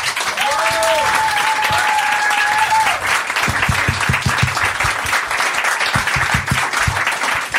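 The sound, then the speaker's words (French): An audience applauds the invited guests loudly and steadily for several seconds, a dense wash of clapping with a few cheers or whistles rising over it near the start. “On les applaudit bien fort.”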